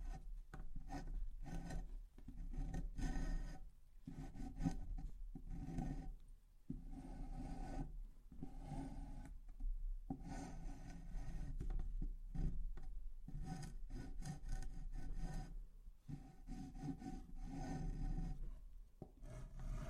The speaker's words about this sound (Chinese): 打磨一下表面。